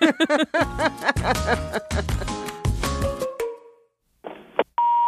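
telephone call ringing tone

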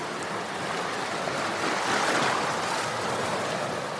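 gentle sea waves

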